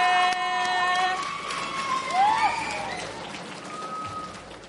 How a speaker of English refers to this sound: Up next, we have another student who's known for her shenanigans. So can we give a big round of applause to our next poet?